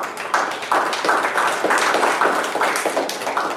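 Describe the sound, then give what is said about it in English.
A crowd claps steadily, a dense patter of many hands at a fairly loud, even level, with no talking over it. “Give a little hand of applause.”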